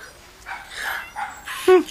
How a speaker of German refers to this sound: Da hinten ist der Ausreißer. Bei den Mülltonnen. Ein Zwerg-Chihuahua. Der Hund legt sich mit den Katzen an.